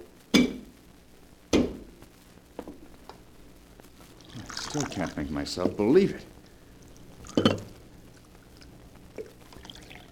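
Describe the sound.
Sharp china clinks ring out at the start, then coffee pours steadily into a cup at a table for a couple of seconds before a final cup clatters down, with a man's voice speaking briefly over the sounds.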